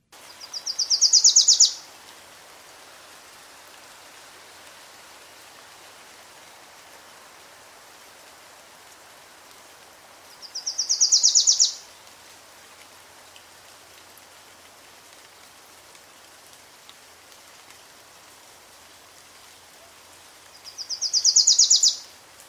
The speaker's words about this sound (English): but the kinglet drops off at the end, whereas this Wilson's Warbler just gets more insistent and then stops. So here's a Wilson's Warbler singing.